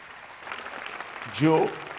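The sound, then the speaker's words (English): An audience claps steadily in a continuous wash of applause, with a single voice briefly rising over the clapping near the end. “I thought you really do clapping.”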